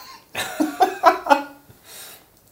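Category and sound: human body sound, cough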